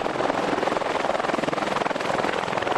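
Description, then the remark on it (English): A helicopter roars, its rotor chopping in a rapid, steady pulse that fills the whole clip with loud, continuous thrumming. It has been diverted to pick up the Fault Lines team at Khanishim, on the Afghanistan-Pakistan border. “Diverting a helicopter just to pick up the fault lines team.”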